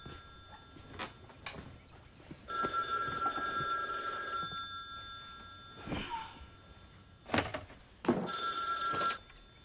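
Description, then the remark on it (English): A telephone, with a wide-brimmed hat lying on top of it, rings in two loud, shimmering bursts a few seconds apart, with soft knocks and shuffling sounds in the quiet between the rings. “Mort turns to stare at the phone ringing beneath the wide-brimmed hat.”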